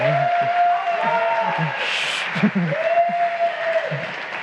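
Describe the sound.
An audience claps steadily for several seconds to welcome a speaker giving a talk on IPv6, a dense, even wash of applause that holds at the same level throughout, with a faint sustained tone and muffled voices beneath it.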